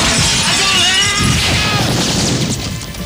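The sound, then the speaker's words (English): A loud crash of a large plate glass window shattering as a person dives through it, followed by a long spray of tinkling shards scattering and settling for several seconds. “In the middle of all of that, you run, you grab him, and dive through a plate glass window with him.”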